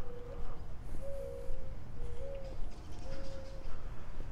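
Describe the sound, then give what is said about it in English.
A bird calls with a soft, level whistle repeated four times in steady succession, fairly clear against a low rumble of outdoor background noise. “I think that's a bird. Every time I walk past this house, I hear that little whistle, little cuckoo.”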